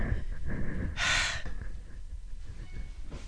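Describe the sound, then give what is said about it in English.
A pet breathes heavily, with one loud, breathy huff standing out midway and softer panting sounds around it over a low rumble. “Usually his tongue's hanging out and he's breathing heavy, but okay, good.”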